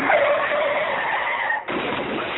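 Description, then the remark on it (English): A loud car tire skid screeches for about a second and a half, its high squeal wavering, then cuts to a harsher, noisier rush of skidding that continues to the end. “Unfortunately, Friday, on my way to work, I was sideswiped by someone whose brakes went out while waiting in a stoplight.”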